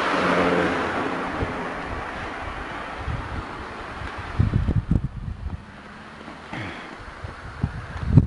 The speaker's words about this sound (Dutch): Ik dacht van een auto aankwam. Oh. Er komt ook een auto aan, dus ik ga even voor je lopen.